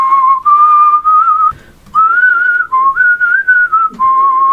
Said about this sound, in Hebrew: תתן לי שריקה. לא, של הפזמון של... לא, לא, לא.